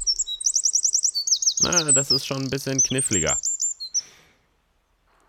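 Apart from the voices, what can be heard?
eurasian wren song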